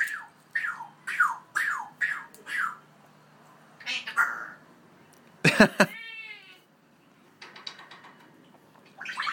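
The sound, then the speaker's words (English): A pet bird calls out "feed the bird" in a speech-like voice among shrill, harmonic squawks, with a loud rasping burst midway trailing into falling whistles, then softer buzzy notes. “we were able to isolate that "feed the bird" because it's actually quite funny”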